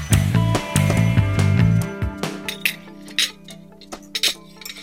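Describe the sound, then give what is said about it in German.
Dishes and cutlery clink together in a quick, irregular series of ringing knocks as plates and cups are set down while setting the breakfast table, with a low tonal hum underneath at the start. “Abends schon mal den Frühstückstisch decken, damit man morgens nur noch den Knopf an der Kaffeemaschine drücken muss.”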